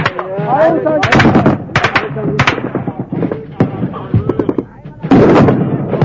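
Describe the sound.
Loud bursts of DShK machine gun, Kalashnikov rifle and RPG fire crackle in rapid, uneven volleys, with shouting voices mixed in, ending in a dense, sustained roar of heavy firing, as fighters attack the enemy early in the morning beside the concrete piers of a half-built bridge.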